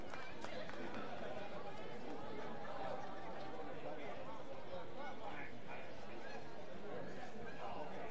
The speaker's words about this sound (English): Crowd still rowdy here on a thirsty Thursday evening.